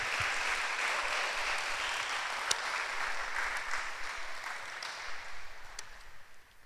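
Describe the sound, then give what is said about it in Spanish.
An audience at a church service claps for God together in a dense, sustained burst of applause that stays steady, then thins and fades slightly toward the end, with a few sharper claps standing out. “Damos un aplauso a Dios para que no estén tan serios, pero fuerte.”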